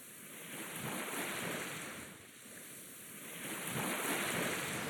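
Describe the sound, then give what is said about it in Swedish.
Waves roll in and break on a shore in slow, broad surges, the roar swelling and easing twice over a steady hiss of surf, with a touch of wind in the background. “Det är rösterna och sen är det havet.”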